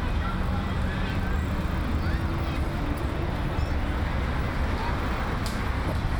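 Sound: street traffic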